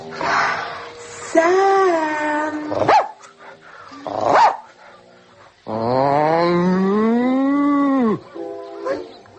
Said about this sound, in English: I'll woof a little at the spaniel and moo to a moody cow or two.